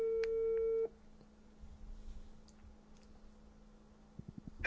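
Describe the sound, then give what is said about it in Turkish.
A steady electronic phone tone sounds loudly for just under a second as a phone call is being placed, then cuts off, leaving faint room noise, a low hum and a few soft clicks. “Arıyorum beyler, durun. Oğlum telefon gene gitti ya.”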